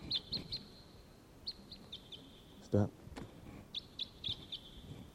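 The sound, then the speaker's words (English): Clusters of sharp, high call notes of a lone wild red crossbill, type 6, calling from the trees at Barfoot Park, repeat every second or so, moderately faint, over a low rumble; a person speaks one brief word midway. “Sorry, there's perhaps a lone wild bird here at Barfoot Park calling from the trees. It sounds like a type 6.”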